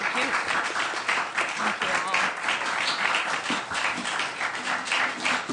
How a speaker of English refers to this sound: Let's give them a little round of applause, please.